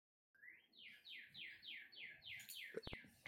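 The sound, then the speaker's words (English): A bird chirps loudly, a rapid run of about eight repeated sweeping notes at a steady rhythm, ending with a couple of sharp clicks. Nobody speaks. “I will say that's the loudest bird I've ever heard.”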